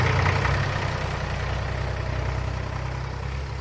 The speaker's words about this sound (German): Und der Zirkusdirektor dachte sich auch nichts Böses, als er wie gewohnt und ohne aufzuschauen den leeren Eselswagen an seinen Laster hängte und auf zum nächsten Dorf fuhr.